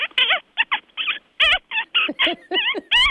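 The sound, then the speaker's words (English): A rapid series of about a dozen high, squeaky kissing sounds made on the back of a hand to attract birds, especially immature birds; sharp chirps in an uneven rhythm, fairly loud, with no talking. “One style is sort of making a shushing sound, kind of like, or you can make kind of a kissing sound on the back of your hand, kind of like.”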